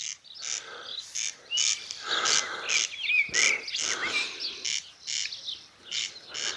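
A migratory Hebridean bird, a kind once found right across the UK, calls repeatedly in bursts of harsh, rasping chatter mixed with thin whistles, steady, over a backdrop of other birds and insect-like buzzing.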